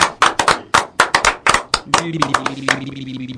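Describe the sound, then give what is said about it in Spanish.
A short burst of applause: loud, sharp claps in quick, uneven succession. Midway a steady humming, voice-like tone enters underneath while the clapping thins out. “Pará, que le aplaude la fundamentación.”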